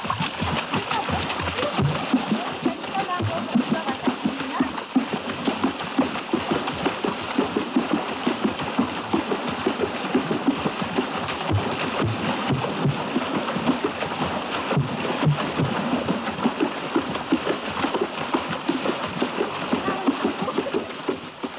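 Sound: rhythmic water drumming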